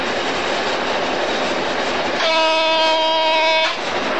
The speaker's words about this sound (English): That buzz is for a 20 mile an hour temporary speed check, which is ahead of me, so I have to shut off power. And it'll have to start braking down to 20 mile an hour from, we're just on 70 mile an hour.